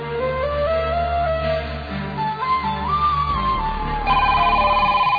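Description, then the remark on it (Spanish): A melodic electronic tune plays, then near the end a telephone starts ringing with a loud, bright, rapidly pulsing electronic trill. No one speaks. “Gómez en el teléfono. Para que lo atiendo desde la oficina.”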